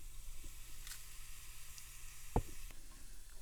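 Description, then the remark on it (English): Cumin (jeera) seeds sizzle gently in hot ghee in a pan on an electric heat, a soft, steady crackling hiss throughout, broken once by a brief knock of a utensil against the pan partway through. No voices. “Swirling the jeera, and then I add, I've cut them in 3, that's what my hand and my mind decided to do.”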